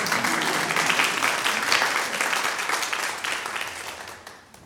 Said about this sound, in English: Thank you very much. Give her another round of applause.